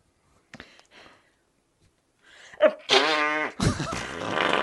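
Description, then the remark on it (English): A couple of faint puffs, then a loud, buzzy fart sound effect with a wobbling pitch that gives way to a long, rough, sputtering blast. “Well, I will accept it if you give me another fart blank.”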